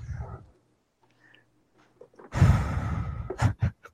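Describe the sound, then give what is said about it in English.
Heavy, close-up breathing right into the microphone: a soft inhale, a pause, then a long rough exhale followed by two short puffs of breath, with no talking. “They're not listening to us so we can sit and breathe into the microphone.”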